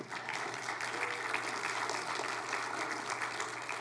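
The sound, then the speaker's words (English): An audience claps steadily, a dense, sustained wash of many hands that holds at a fairly even loudness for several seconds with no speech over it. “Father, you hear us clapping.”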